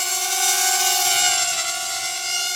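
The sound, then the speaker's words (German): A small drone hums in flight, a steady, high-pitched insect-like whine with a faint rising and falling pitch, fairly loud throughout, with no voices. “Das ist eine Drohne. Eine kleine Drohne, aber eine nervige. Es ist so wie ein Insekt.”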